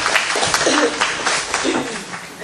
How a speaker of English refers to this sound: All right, round of applause for the volunteers here.